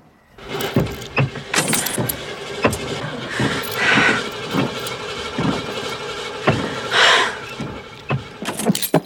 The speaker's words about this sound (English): I can't get the engine started.